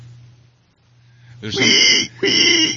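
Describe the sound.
A person imitates a pig, giving two loud, rough snorts, the second following a brief pause. A faint low hum is audible before the snorts begin.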